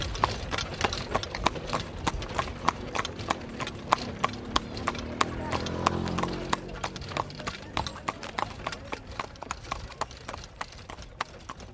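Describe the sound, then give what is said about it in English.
Steady clip-clop of horse hooves on a hard surface, recorded in Egypt, a brisk regular rhythm of sharp knocks throughout, with a low rumble of background activity swelling briefly in the middle. “Forty-two seconds of horse steps recorded somewhere in Egypt they wanted to include on the album.”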